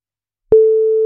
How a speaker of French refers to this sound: Voilà, voici la première sonnerie.